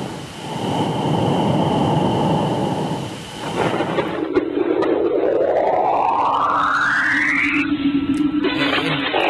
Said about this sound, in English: This is Saturn radio transmissions.